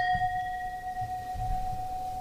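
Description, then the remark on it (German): Wine glasses touched together in a toast leave a clear, bell-like ring that hangs steadily and slowly fades, with faint low rumbling underneath and no talking. “Und die Gläser klingen.”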